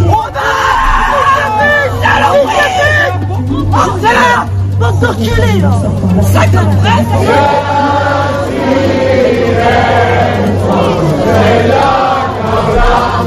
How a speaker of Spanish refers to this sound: Porque esos primeros eran los gritos que, mejor no traducir, en las sedes de Reagrupación Nacional, la extrema derecha, al conocer el sondeo que ya ha confirmado, les deja en tercera posición.